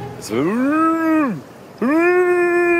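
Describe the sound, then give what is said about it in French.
A man imitates another man shouting while fishing on a reef, sounding like two long, loud, cow-like bellows: a drawn-out low moo that rises and then sags away, a short pause, then a second steady moo that holds until the end. “Ouais, donc on dirait plus une vache que Claude qui va à la pêche.”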